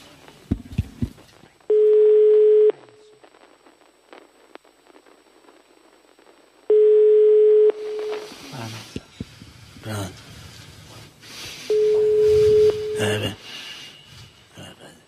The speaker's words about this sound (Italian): Ah, suona il telefono.